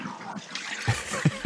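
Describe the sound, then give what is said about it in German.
Water rushes steadily from a toilet flush after the flush button is pressed, recorded with the microphone held close, fairly quiet, with a few low gurgling thumps breaking through the continuous running sound. “Ich drück mal die Spültaste.”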